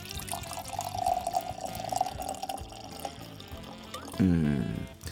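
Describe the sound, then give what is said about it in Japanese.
Deep red wine, a 2019 Meadows from Kido Winery, glugs steadily from a bottle into a glass, a continuous pour with a rising tone as the glass fills, ending in a louder burst of gurgling. “はい、早速ついてみたいと思います。”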